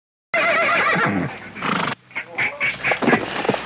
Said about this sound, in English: Well, I also am kind of wondering, like, why is there just this loose horse randomly, like, right in front of their house? Yeah. Like, instead of being, like, in the stable or the pasture or whatever.